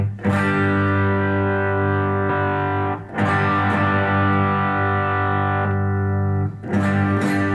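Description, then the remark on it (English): An electric guitar played through an overdrive pedal with presence, overdrive, output and four-position mid-range controls rings out thick, distorted chords, struck three times and left to sustain loud, with no voices. “The amount of overdrive, an output knob, and then it's got a four-position mid-range control.”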